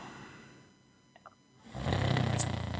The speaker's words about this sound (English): Oh. Somebody snoring, sorry.